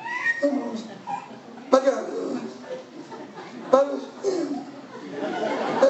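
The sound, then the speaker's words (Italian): A person mimics a cat, letting out a string of whiny, drawn-out meowing sounds one after another, fairly loud, with no real talking in between. “E andiamo avanti con questi versi, questi miagoli,”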